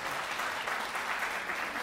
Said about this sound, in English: This isn't like a real concert. You can applaud whenever you want. No rules and regulations here.